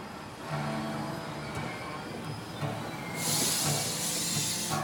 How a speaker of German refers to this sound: Kellers regloser Blick folgt den einfahrenden Waggons.